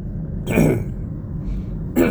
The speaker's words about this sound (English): I don't know what's causing me to cough today, but because I really don't cough until I start talking. It's the weirdest thing.